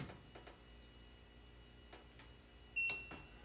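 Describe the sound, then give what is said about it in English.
A clothes dryer sounds a single bright electronic ding that rings briefly and fades, preceded by a few soft button clicks as the power and remote buttons on its Braille-marked touch panel are pressed, over a low hum. “Once you hear that ding, then you know that you can go to the app and see what it says.”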